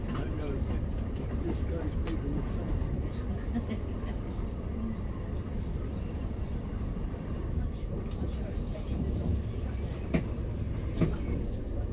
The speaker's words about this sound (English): we've just passed the Shard by the sound of it. This train seems to be going incredibly slow.